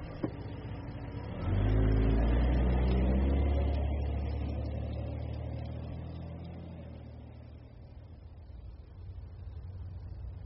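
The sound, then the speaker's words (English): At 12 o'clock at night, behind an apartment house, a man starts a car with a key; the engine turns over and catches with a loud surge, then settles into a steady rumble that gradually fades as the car drives off. No one speaks. “Take out his key, get into his car, drive off.”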